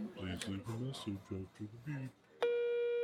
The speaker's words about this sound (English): Okay. Machine. Just waiting for the beep. Good.